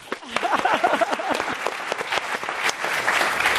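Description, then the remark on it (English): Loud, raucous applause from a crowd, dense overlapping claps filling the whole stretch with a few brief whoops mixed in near the start. “Okay, so imagine a very loud, raucous clap.”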